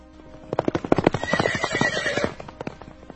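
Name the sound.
horse neighing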